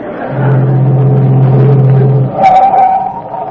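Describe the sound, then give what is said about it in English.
A delivery truck's engine drones steadily for a couple of seconds, then cuts off as the truck pulls up, followed by a brief higher-pitched squeal like brakes settling. “I'm going past your house. You want a lift to my delivery truck?”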